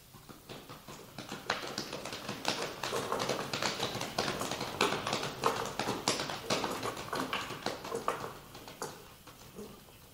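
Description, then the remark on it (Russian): Hooves of a horse pulling a horse-drawn cab clip-clop steadily at a brisk trot, a continuous rhythmic tapping at moderate loudness, with faint street rumble beneath. “Да, перемени на полдороги извозчика, чтоб последний не знал, откуда ты.”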